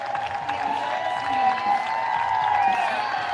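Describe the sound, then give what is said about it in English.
A ballpark crowd at Keesler Federal Park gives pitcher Logan Henderson a standing ovation after his dominant start: a steady, sustained roar of applause and cheering that holds at an even loudness throughout, with a few high whistles ringing over the dense clapping. “Logan Henderson, a dominant start, and he gets a standing ovation from the crowd at Keesler Federal Park.”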